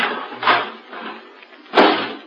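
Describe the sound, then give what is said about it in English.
A metal garbage can lid is put on, clattering into place in two rattling, scraping bursts, fairly loud, with a brief jangle between them and no talking. “Okay, put the lid on.”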